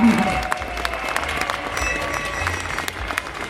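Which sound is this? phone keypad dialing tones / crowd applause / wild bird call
crowd applause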